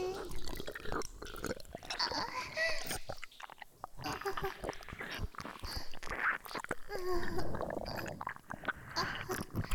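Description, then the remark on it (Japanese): Shower water sprays and splashes steadily as a person washes their body, a dense hissing wash with wet dripping textures, briefly easing off for a moment before gushing again at full strength. “おまんこドロドロだからシャワーでよーくきれいにしないと。”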